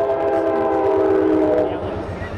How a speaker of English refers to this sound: There are two sets of tracks at the Burney Road crossing that carry high-speed commuter trains between Hartford and Springfield. Earlier this year, the speed and frequency of the trains on the rail corridor increased.